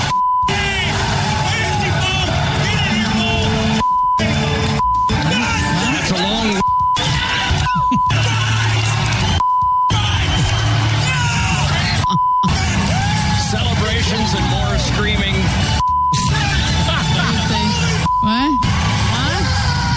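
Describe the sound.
Loud, excited shouting and yelling from several voices as St. Louis Blues players celebrate winning the Stanley Cup on the ice, repeatedly cut by short, pure censor beeps at irregular intervals, with brief silent gaps between bursts of rowdy celebration.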